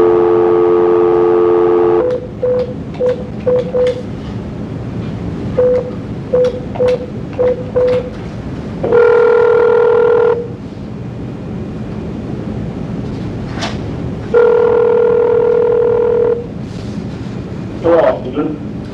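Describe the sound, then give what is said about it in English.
A steady telephone dial tone gives way to a quick series of keypad dialing beeps, followed by two long ringing tones separated by a pause, all over a faint background hiss: a call placed by the Arizona Board of Executive Clemency during a parole hearing to reach a parole officer. “wants to participate in the hearing today, so I'm going to try to reach him on the phone, sir.”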